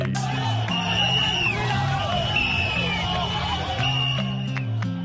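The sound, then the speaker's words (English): Hundreds of fans in Yaounde, Cameroon applaud and cheer in a steady, dense roar as Kenya's national women's volleyball team lifts gold for the 10th time as African champions, with droning horn notes and sharp whistle-like tones rising above the noise. “Hundreds of fans applaud in Yaounde as the national women's volleyball team of Kenya lifts gold for the 10th time as women's African volleyball champions.”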